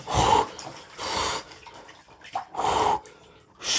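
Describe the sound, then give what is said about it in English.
Water in an ice bath sloshes and splashes in three broad, rushing bursts about a second apart as someone splashes about in it to make it colder, with quieter drips and trickles between them. No one speaks. “You splash about a bit, make it cold.”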